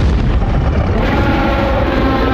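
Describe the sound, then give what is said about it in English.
A Godzilla roar sound effect from a collection of 1992 Godzilla roars and effects: a loud, dense, sustained rumbling roar that fills the whole span steadily, heavy in the low end with harsh noisy texture and no speech. “All Godzilla roars and effects from 1992.”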